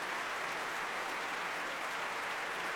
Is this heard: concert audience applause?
yes